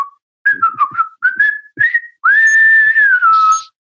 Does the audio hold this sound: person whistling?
yes